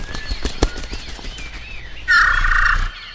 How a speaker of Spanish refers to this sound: Ese es el serere curanchero del que les había hablado.